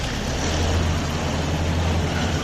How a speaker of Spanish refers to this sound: El derribo del paso inferior de tráfico bajo la estación de trenes de Sutuyena, que conectaba las Alamedas de Mentidón y Rafael Méndez, fue demolido ayer en el marco de las obras de soterramiento del AVE,